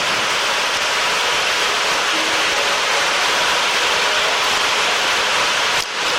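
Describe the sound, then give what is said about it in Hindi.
Steady, dense rain hisses loudly and evenly throughout, a constant wash of falling drops with no voices, briefly dipping just before the end. “वर्षा के साथ।”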